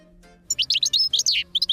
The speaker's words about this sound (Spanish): ¿Y ves el pájaro? Lo estoy escuchando y lo estoy viendo.